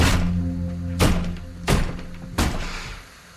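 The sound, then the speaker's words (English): In a motel room, four dull, heavy thumps of a foot kicking the side of a bed while the TV shows only white noise, the first loudest and the others coming about a second apart, over a steady low humming drone. “Getting only white noise, he kicks the side of the bed.”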